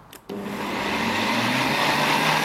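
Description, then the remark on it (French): After a brief click, a kitchen blender motor kicks on and settles into a loud, steady whirring drone with a low humming tone, blending pesto with grated parmesan and olive oil, without any talking. “Et on est parti pour mixer à nouveau.”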